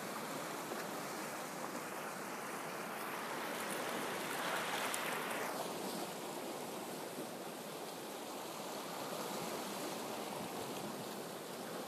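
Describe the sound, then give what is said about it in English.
Steady surf rushes and hisses continuously as waves break against rocks, with one broader wave surge swelling and crashing around the middle before settling back into the constant wash of water. No voices are present. “And as you hear the waves breaking into the rocks, you're going deeper and deeper.”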